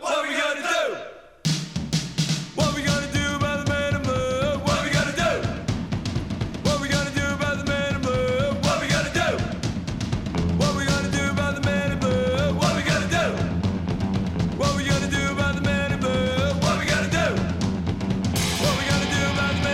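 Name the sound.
music playing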